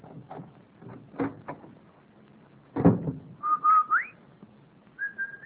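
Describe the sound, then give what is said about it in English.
Door and footstep-like clatter as a mother arrives home from work in a Kansas City, Missouri household, then the Rinso whistle, a short whistled tune of rising and steady tones telling the children she is home, loud, ending with a held note; no talking. “The Rinso whistle is our way of telling the children we're home from work.”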